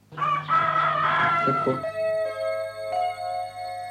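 A rooster crows loudly for about two seconds, its call giving way to a steady, humming signal tone that carries on alone to the end: a time signal mixed with rooster crowing, from Nagyberény, a small village in Somogy county, Hungary.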